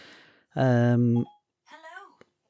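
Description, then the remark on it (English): A phone suddenly sounds off with a loud, steady electronic tone lasting under a second, followed by a shorter, wavering synthetic voice-like chirp, otherwise quiet. “Jesus, my phone is talking to me.”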